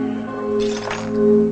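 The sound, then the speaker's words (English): A broom scrapes across the floor, pushing broken glass that gives off a few light clinks and crackles, over a steady low hum in the background. “He begins sweeping up.”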